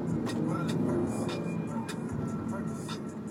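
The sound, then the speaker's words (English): A car engine drones steadily with a low, humming roar and rushing road noise as the car accelerates off the line, holding loud and even for a few seconds, with brief muffled sounds flickering over the top. “My car is faster off the line than y'all's.”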